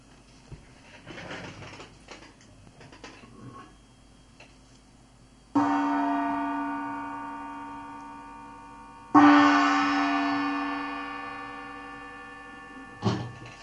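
A small oriental gong is struck lightly twice, each shimmering tone ringing out and slowly fading, with a brief third tap at the end after some faint rustling at the start.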